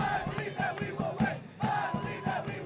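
A dense crowd of Moroccan and American football fans, celebrating their teams' qualification for the second round of the 2022 World Cup, roars and chants together, with rhythmic drum-like thumps pulsing steadily beneath the loud, continuous cheering.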